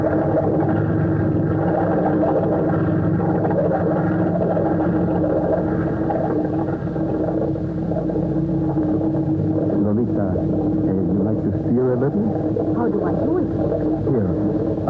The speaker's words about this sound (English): Look, I will start the engine. Oh, listen to that.